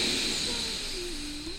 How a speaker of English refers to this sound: So first, we'll just do it without our hands over our ears. Let's take a nice deep inhale through the nose. Go ahead.